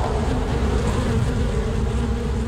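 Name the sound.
bees buzzing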